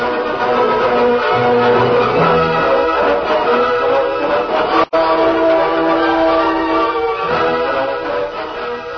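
A steam work train getting under way as its throttle is opened, with a loud, sustained whistle-like wail over heavy rumbling that runs nearly the whole time, broken only by one brief cutout midway. No voices.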